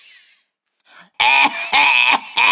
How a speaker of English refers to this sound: Look, I've got a cough.